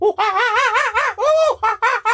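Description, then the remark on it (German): A person shrieks and warbles loudly in about five quick bursts, imitating noisy screeching Australian birds with a wavering, squawking pitch. The bursts come close together. “Das ist nicht Vogelgesang, das ist Vogelgeschrei.”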